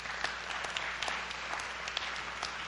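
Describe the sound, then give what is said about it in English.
A large church audience applauds steadily after hearing that the church has baptized its 7,000th person since 1991, hundreds of hands clapping in a dense, continuous wash of sound with no voices over it, lasting the whole moment. “And I love it because for the most part, when we share that here, there's wild applause.”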